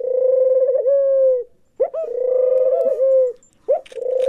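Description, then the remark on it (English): A low, steady cooing call, presented as what a dinosaur may actually have sounded like, repeats in long, humming phrases, each opening with a brief rising swoop and holding a smooth tone, separated by short pauses. No one speaks. “According to new research, that cooing is much more likely what a dinosaur sounded like.”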